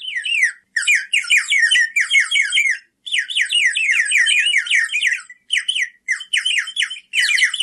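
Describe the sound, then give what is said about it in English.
A water-filled bird whistle, blown through a mouthpiece so air passes down into a bubble of water moving over the whistle part, warbles in rapid, trilling bursts, high and bright, with quick wavering pitch sweeps and brief pauses between runs, imitating birdsong with no talking. “there's a mouthpiece that you blow into, and then you're blowing down into like a bubble that has water in it, and that bubble of water is moving over the whistle part, and that's why it kind of feels like it's the sound is moving a little bit.”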